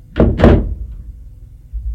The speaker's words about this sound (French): Elle est réveillée par la porte qui s'est ouverte.